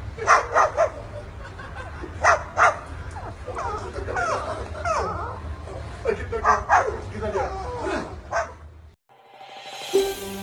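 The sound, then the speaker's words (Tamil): A cockatoo mimics a pet dog, giving a series of sharp bark-like yips and whimpers in uneven bursts over a low steady hum, followed by a brief pause and a short noisy burst. “இதே சமயம் ஃபேஸ்புக்கில் வளர்ப்பு பிராணியான நாய் போன்று மிமிக்ரி செய்யும் காக்கட்டூவின் பதிவு தற்போது வைரலாகி வருகிறது.”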